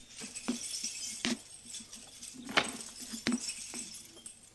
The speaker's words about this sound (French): Ouvre la porte de son appartement.